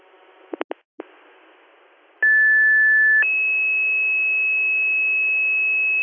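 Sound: fire dispatch alert tones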